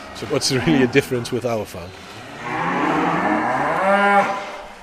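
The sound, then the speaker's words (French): A person talks briefly, then a cow grazing on a farm pasture lets out one long, loud, drawn-out moo that rises and falls over a couple of seconds. “Les vaches broutent de l'herbe, alors on les sort autant que possible.”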